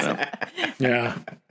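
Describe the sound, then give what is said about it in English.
A single drawn-out burp, low and guttural with a buzzy, voiced tone, rising after some breathy throat noises and fading out at the end. “Oh, hey, good bell. We heard that one.”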